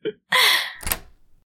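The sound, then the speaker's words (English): A house's front door creaks as it swings, then shuts with a solid thump, followed by a brief faint rattle as the door is locked. No one speaks. “Go ahead and make yourself comfortable while I lock the door.”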